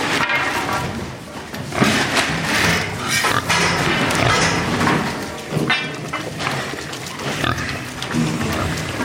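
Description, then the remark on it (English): Many pigs grunting, squealing and snuffling together in large pig pens in an old piggery, a dense continuous din with occasional louder squeals and some clanking, fairly loud. “So we've got four pig pens in this part of the piggery, and these are large pig pens, which honestly looks like it could have been a set from Downton.”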